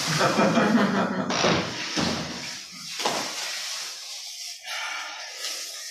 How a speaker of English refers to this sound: Maybe you should just shut the door. Because it's also, for me, it's kind of distracting because I'm looking right at her.